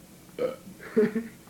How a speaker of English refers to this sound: You don't burp in a very good key.